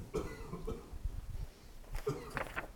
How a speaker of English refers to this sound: I might cough from time to time. I am in the final stages of recovering from some bronchial illness that I not have.